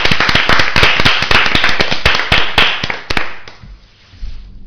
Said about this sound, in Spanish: Les, bueno, damos un aplauso para darle fuerzas. ¡Vamos!